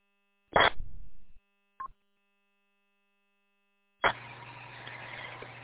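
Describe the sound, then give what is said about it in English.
A heavy clunk and a short knock, then after a pause a car engine catches and settles into a steady rumble that keeps running to the end. No voices. “That does sound like a good car.”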